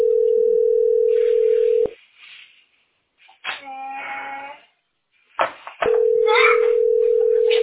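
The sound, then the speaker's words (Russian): A telephone ringback tone sounds in two long, steady electronic beeps separated by a pause, with muffled voices and faint clatter in the gap, and the call goes unanswered. “Я думаю, никто не ответит, да, дети мои?”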